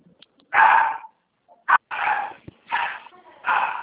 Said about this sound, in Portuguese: Não, é o cachorro.